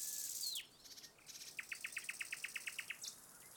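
Birdsong in a forest: a descending whistle, then a rapid series of about a dozen evenly spaced bright chirps, with another bird calling briefly at the end over quiet ambient air.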